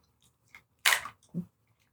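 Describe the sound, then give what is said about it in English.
Chewing on a hard fizzy candy mint: one loud, sharp crunch followed by a softer, duller bite, with faint mouth clicks around them and no talking. “I'm chewing it.”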